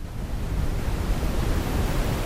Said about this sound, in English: So let's hear something called brown noise before we hear pink noise. This is brown noise.